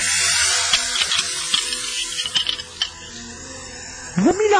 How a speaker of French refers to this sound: Ah ça. Mais qu'est-ce que c'est que ce sifflement là?